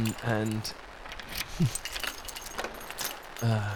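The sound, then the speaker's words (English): Keys jingle and clink in scattered metallic bursts as someone rummages through the many pockets of a suit looking for them, while a person makes a few brief voiced sounds at the start and end. “Where the fuck are my keys?”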